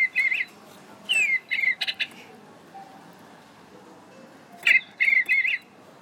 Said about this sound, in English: Right, this is a thing called a digibird. It's a digital bird